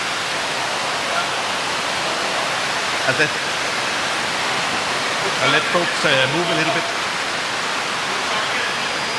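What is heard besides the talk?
heavy rain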